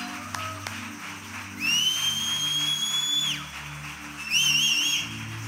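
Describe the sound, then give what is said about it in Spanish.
A church audience whistles loudly to God during a morning service over steady low music: one long, piercing, held whistle, a short pause, then a brighter warbling burst of whistles near the end. “Chifla bien fuerte esta mañana en esta casa para papá.”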